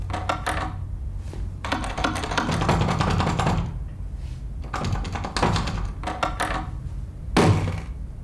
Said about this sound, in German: drückte die Türklinke der Wohnungstür hinunter und war kurzzeitig irritiert. Denn die Wohnungstür war verschlossen.